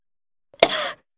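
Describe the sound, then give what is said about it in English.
A single short cough, fairly loud, with a sharp burst at the start and a brief voiced tail, heard alone against silence. “A cough.”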